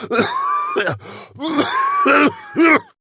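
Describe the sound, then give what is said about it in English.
A man, red in the face and flushed, coughs repeatedly in dry, raspy bursts, about four or five harsh hacks with throaty strain between them, fairly loud, with no talking. “he starts coughing a dry, raspy cough.”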